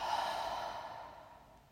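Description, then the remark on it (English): A single slow, airy exhale through the mouth, soft, with a steady breathy hiss that gradually fades out over a couple of seconds. No talking. “And breathing out through your mouth.”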